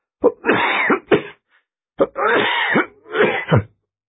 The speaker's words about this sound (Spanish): Sentí como un ahogo en la garganta y me puse a toser.